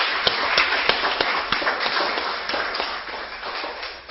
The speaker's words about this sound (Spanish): ¿Qué tal si damos un aplauso a Dios? Porque hoy vamos a terminar.